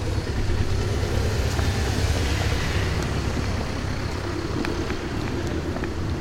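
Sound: car passing on street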